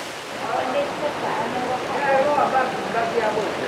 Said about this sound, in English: And right now I'm just walking underneath the train tracks, which is way better than walking in the rain, but I still need to have my umbrella out because quite a bit of water drips down through the tracks.